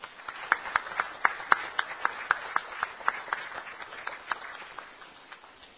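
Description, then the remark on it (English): A short burst of applause at a Rotary club meeting for a guest from Venezuela who is a Rotaract member: a scattering of sharp, irregular hand claps that peaks early, then thins out and fades over about six seconds. No voices are heard. “He's a member of Rotaract, and I'd like to give him a great round of applause.”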